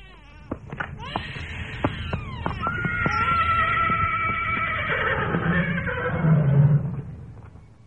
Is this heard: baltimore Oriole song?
no